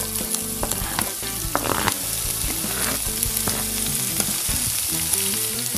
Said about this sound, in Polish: W międzyczasie nagrzewamy patelnię z ulubionym olejem, może być to jakiś smakowy, w moim przypadku jest to z ziołami, bazylią oraz suszonymi pomidorami. Na rozgrzany tłuszcz wrzucamy pokrojoną ówcześnie cebulkę.